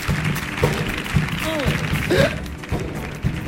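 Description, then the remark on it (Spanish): A studio audience claps steadily and loudly for a few seconds, a dense wash of hands mixed with scattered shouts and whoops from the crowd. “Fuerte el aplauso para vosotros mismos.”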